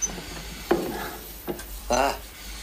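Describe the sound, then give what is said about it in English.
Water arriving in pipes and running to the taps after the air is taken out of the pipes: a low steady rush broken by a few irregular gurgling, sputtering bursts, the loudest near the end, with no voices. “Can you watch the taps and tell me when the water arrives?”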